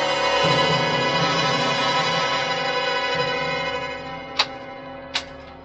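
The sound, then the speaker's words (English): A steady, dense droning hum fills the scene, then two sharp ticks of a clock whose second hand has started moving again snap out near the end, crisp, spaced under a second apart. “It started again, see? What? The second hand's moving.”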